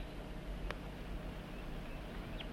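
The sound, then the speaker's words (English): Two quick, high chirps from a wild bird near the end, faint over a steady hiss of background noise, with a single soft click earlier on. “Start recording the wild bird and 4-3.”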